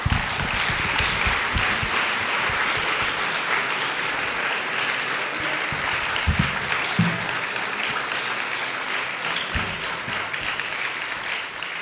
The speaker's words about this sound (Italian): L'applauso mi sembrava abbastanza eloquente per ringraziare i nostri due amici che ci hanno aiutato questa sera.